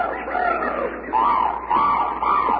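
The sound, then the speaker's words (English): Tropical bird calls on a muffled, lo-fi recording: a run of loud, drawn-out squawking cries, each with a wavering mid-pitched tone, repeating about three or four times with brief gaps and no talking. “Sounds like tropical birds, maybe from the Bronx Zoo.”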